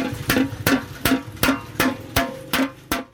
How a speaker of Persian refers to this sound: 66 ساله بر یک دیگ کلان میسی با چکش میکوبد. او تلاش دارد که این صنعت کهن را که از پدرش به او بازمانده را از نابودی نجات دهد. او بیش از 50 سال میشود که در بازار مسگری در شهر کنه هرات ظرفای میسی چون دیگ، کاسه، آفتابه و ظروف تزئینی میسازد.